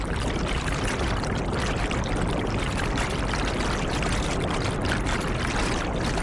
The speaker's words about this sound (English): Obi Emmanuel's engine boat has just arrived at Bakassi on the shores of the Atlantic Ocean. He is coming from Calabar with gallons of petrol.